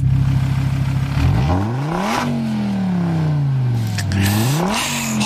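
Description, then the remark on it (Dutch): A Donkervoort sports car engine revs hard, its pitch climbing and falling through several sweeping gear changes, loud, with no voices over it. “Ja, dat blok is wel een fantastische auto trouwens ook.”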